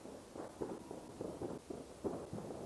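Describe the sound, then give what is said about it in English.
A rapid, irregular string of muffled fireworks pops and crackles, heard faintly against a low background rumble, recorded with a Rode NT4 stereo microphone, with no one talking. “Can you hear those fireworks?”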